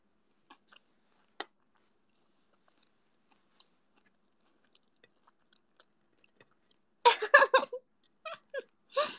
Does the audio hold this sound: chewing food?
yes